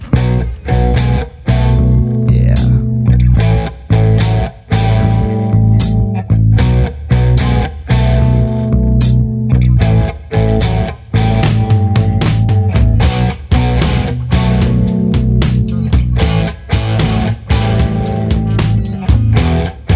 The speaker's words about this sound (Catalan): estem parlant de quina cançó? El de …. El de …, encara no ho havíem dit. Doncs va, anem a escoltar